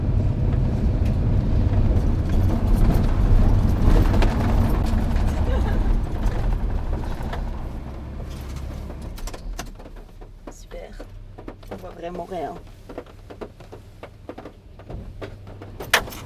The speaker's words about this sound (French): Voilà, donc là on est dans une voiture, le bruit qu'on entend c'est l'eau qui perle sur le toit. Impressionnant quand même. Ah, c'est impressionnant. C'est noir total et c'est vraiment très noir, on est vraiment sous la terre.